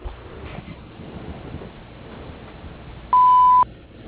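A single loud, steady electronic beep tone lasting about half a second, the answering machine prompt of Auburn Mainridge Excavating, sounds after a stretch of quiet low background noise.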